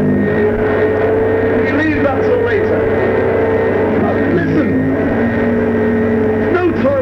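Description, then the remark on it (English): A vacuum cleaner hoovering the floor runs loudly throughout, its motor droning steadily with a whining tone that wavers and slides up and down in pitch as it works. “Be hoovering in the floor when you leave it.”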